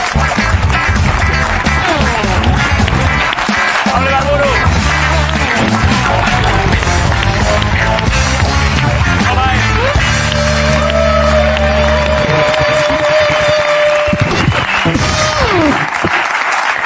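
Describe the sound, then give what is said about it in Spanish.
The audience of the show La Resistencia applauds Pablo Ibarburu loudly and steadily for the whole stretch, a dense rush of clapping mixed with cheers, while music with sustained tones plays underneath. “Un aplauso para Pablo Ibarburu en la Resistencia.”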